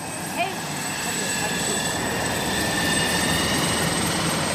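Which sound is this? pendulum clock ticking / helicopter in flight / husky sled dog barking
helicopter in flight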